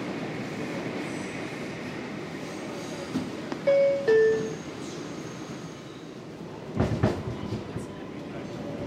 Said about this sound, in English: We're now arriving in New York City and the Cadillac of subways, the 6th train.